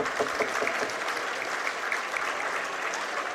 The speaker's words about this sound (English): Nice round of applause from the fans here for the Assumption Royals.